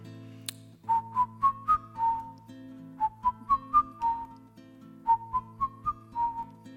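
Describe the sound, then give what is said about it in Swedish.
A person whistles a short melody in a minor key imitating a little bird heard singing in the branches of a tree in a garden in Israel: three repeated phrases of rising then falling notes, clear and moderately loud, over a low steady hum. “Och det var en liten fågel som sjöng den här lilla vackra mollmelodin.”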